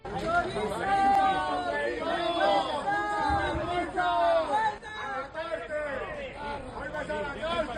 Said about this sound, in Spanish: Bueno, escuchamos todo tipo de gritos, insultos